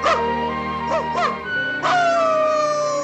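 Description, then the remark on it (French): Dogs passing news along give a few short, arching yelps and barks, then break into a long, drawn-out howl that slowly slides downward in pitch, fairly loud with no talking. “Immédiatement, les chiens transmettent la nouvelle à Pongo et Perdita.”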